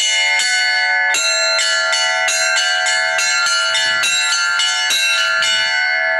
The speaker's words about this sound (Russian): После молитвы архиерей, священники и все прихожане смогли позвонить в новые колокола, установленные на временной звоннице во дворе храма. В дальнейшем они будут установлены на храмовой колокольне.